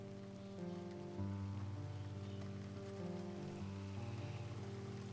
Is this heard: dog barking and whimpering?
no